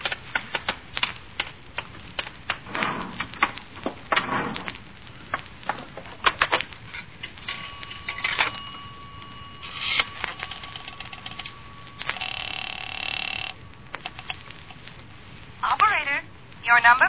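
Clicks and mechanical rattling of a telephone in a filling station phone booth being handled and dialed, with a steady tone sounding partway through, moderately loud, over a faint background hiss.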